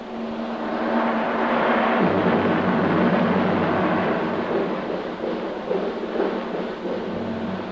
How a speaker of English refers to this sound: There, I believe there's a storm coming up. Somehow I never expected that here. Oh, I don't think it'll touch us here in the valley.